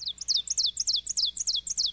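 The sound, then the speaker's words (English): An ovenbird, a migratory warbler back from the tropics in spring, sings a rapid series of bright, high-pitched two-note phrases, repeated in a steady, insistent rhythm and growing slightly louder, with no talking over it. “But of all those coming back, it's the warblers that many eagerly await, like the ovenbird, whose song we're hearing now.”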